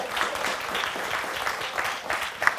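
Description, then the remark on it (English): Steady applause from an audience fills the whole moment, a dense wash of many hands clapping at moderate volume with no individual claps standing out. “You guys can clap on that one.”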